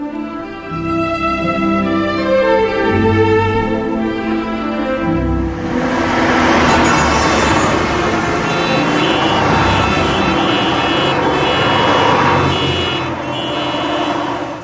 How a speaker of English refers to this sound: In Spot the Sig, the team's challenge is to identify the name of a programme simply by hearing its signature tune, okay? So here's the first one.